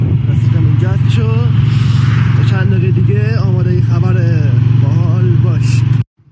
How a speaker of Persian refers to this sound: عزیزمون که این نوجوان فعال باقی میخواده عزیز داره این کارها رو انجام بده، موتورم سوار شده